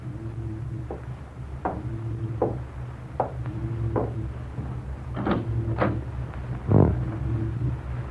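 A series of firm knocks on Miranda's cabin door aboard a ship, coming in uneven pairs and singles, over a steady low mechanical hum with no one speaking.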